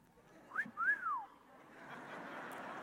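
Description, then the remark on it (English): A two-part wolf whistle: a quick upward note, then a longer rising-and-falling swoop, clear, followed by a steady background hiss with no talking; a catcall like those prison inmates whistled at a 19-year-old correctional officer. “And I remember the inmates, just to, because I was a new kid and I was 19, just to get under my skin, they would catcall me. They would whistle at me.”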